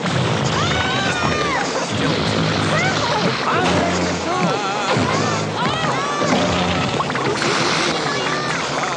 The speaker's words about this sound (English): Oh, yeah. I mean, that's like a robot fart right there. Beautiful robot farts. That's like, I feel like something you would see on like the Conan O'Brien show.